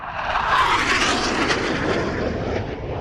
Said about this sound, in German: Und das ist wirklich nahe am startenden Düsenjet.